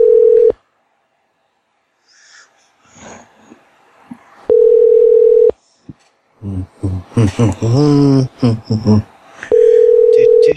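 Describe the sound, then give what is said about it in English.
A telephone hang-up tone: a steady mid-pitched beep about a second long, repeating every few seconds and fairly loud, with a person talking briefly between two of the beeps. “That beep beep beep that sounds like the one Super Mario Brothers like song.”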